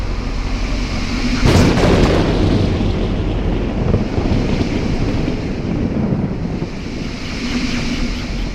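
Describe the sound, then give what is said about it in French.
A loud, steady roar of storm wind fills the whole stretch, with a sharper gust bursting through about two seconds in before settling back into a continuous howling rush. “Une tempête les transporte sur la planète Jazzy.”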